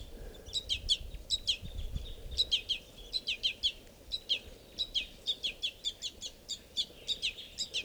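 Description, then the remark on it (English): A baby bird's begging calls: rapid, insistent high chirps repeated over and over, the baby sitting right next to an adult male bird at a water hole at 7:20, with a low outdoor rumble underneath. “I'm sitting right down at the water, and this is a begging baby sitting right next to a male.”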